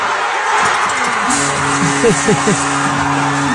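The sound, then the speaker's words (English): A large crowd gathered at Maple Leaf Square for playoff hockey roars and cheers as a goal ties the game, a steady, dense wall of noise, with loud shouts and a few sustained horn-like tones rising above it. “And I have to say, the sounds from Maple Leaf Square yesterday, they were fired up.”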